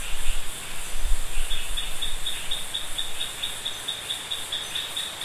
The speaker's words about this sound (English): And what you can now hear, just as we started, is the sound of rain. So, yeah, it'll be a rain in the rainforest recording.